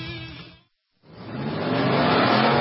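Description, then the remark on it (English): Loud roar of sports car engines at speed during an endurance race at Sebring International Raceway, cutting out for a brief silent moment before another car's engine noise swells back in and holds, intense, with no voices. “The Mobile One 12 Hours of Sebring, presented by Fresh from Florida, features the fastest race cars in the world.”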